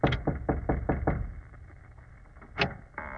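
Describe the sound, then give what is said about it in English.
Six quick, firm knocks on a wooden door in an even rhythm, followed by a pause and a single fainter tap, as Watson knocks on the door at Holmes's urging. “Well, here's the door. Knock.”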